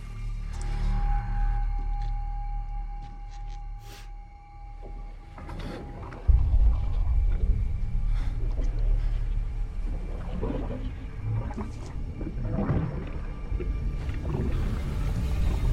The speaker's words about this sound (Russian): Работники слышат бульканье у трубы.